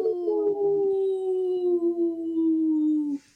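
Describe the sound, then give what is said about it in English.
People howling like wolves on the radio show Native Roots Radio Presents I'm Awake, in a segment supported by Howling for Wolves; a long sustained wail that slowly falls in pitch over about three seconds, loud, then cuts off sharply. No talking. “we're always excited to howl with you”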